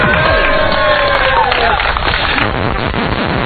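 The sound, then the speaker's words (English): A crowd at the World Cyber Games U.S. Championships in New York City cheers loudly and steadily: a dense wash of overlapping shouts and raised voices with some clapping mixed in, holding at full volume for several seconds. “You may cheer now.”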